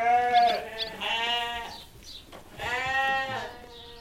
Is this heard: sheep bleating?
yes